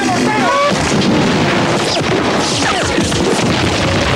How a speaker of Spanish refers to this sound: Los obuses estallan a su alrededor con más insistencia.